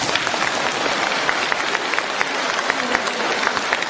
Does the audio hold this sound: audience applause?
yes